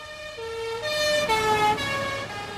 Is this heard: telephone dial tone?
no